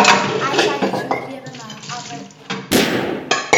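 A sudden, loud, sharp gunshot cracks out near the end, followed shortly by a second burst of noise, after a stretch of clattering, busy background sound.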